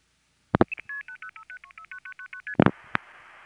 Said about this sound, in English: This is what the dialing portion of the call sounds like.